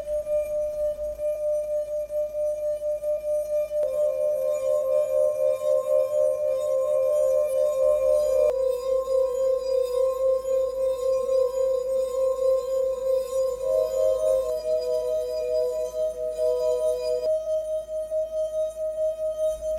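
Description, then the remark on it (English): Wine glass rims, each glass holding a different amount of water, are rubbed and ring out in steady, pure sustained tones, several overlapping at different pitches that shift every few seconds as new glasses sing in, clear with no talking. “And they are red, purple, pink, and blue, and each have their own sound, as played by Melissa on the rim of a wine glass with different amounts of water.”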